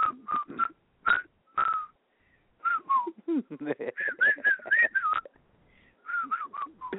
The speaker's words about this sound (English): You are like the worst whistler ever. Do you know how to whistle that one? I swear I am a bad whistler.